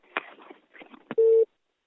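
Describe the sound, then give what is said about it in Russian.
Crackly line noise and a few sharp clicks, then one short, loud, steady telephone call ringing tone that cuts off abruptly, leaving silence. “Пошел дальше, звонок кто-то пошел.”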